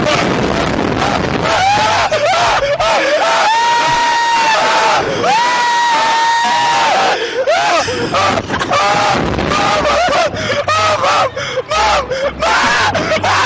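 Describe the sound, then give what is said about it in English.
A child screams loudly in long, high-pitched wailing cries that rise and break off repeatedly, over rough wind-like noise and a busy background. “Also, I believe he's screaming, put me down.”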